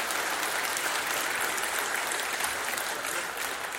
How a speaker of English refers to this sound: If you are a mom, would you stand to your feet for us? We just want to applaud you. That's it. All right. Thank you. Let's clap for our moms. Come on. So great. You can cheer, Mom. That's good.